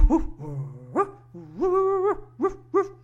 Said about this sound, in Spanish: Y lo mismo sucedió con un perro que ladró.